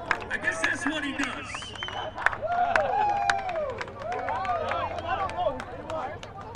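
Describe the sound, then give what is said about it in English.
A large crowd cheers and whoops while many hands clap steadily throughout, a dense, lively roar of rising and falling voices with sharp scattered claps, sustained at moderate loudness. “On fire. And the crowd loves it.”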